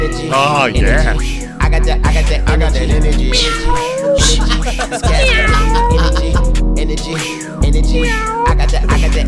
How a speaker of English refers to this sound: Throw a little meow in there.